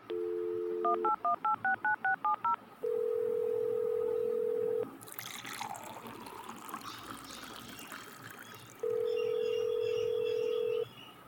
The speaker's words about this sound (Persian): چرا گوشی را بالا نمی کنن؟